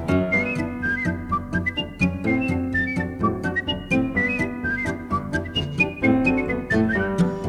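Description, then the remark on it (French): A bright, bird-like whistled melody trills over a steady musical accompaniment with rhythmic percussion, lilting up and down continuously throughout, fairly loud. “La main dans la main, ils s'en sont allés, et sur leur chemin, les oiseaux sifflaient.”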